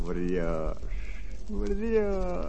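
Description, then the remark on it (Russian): Two drawn-out, hoarse raven caws, voiced by a person imitating the bird, each nearly a second long with a short pause between, fairly loud. “И ворон тут.”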